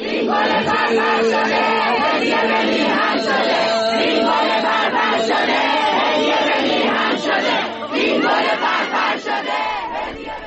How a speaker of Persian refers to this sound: و یک صدا هم از جمعیتی که اونجا هستن داری.